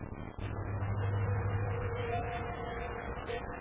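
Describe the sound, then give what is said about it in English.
A car engine runs steadily, a continuous low rumble with a faint hum layered on top, holding level for a few seconds with no voices. “She hadn't I heard the car. Stop the car.”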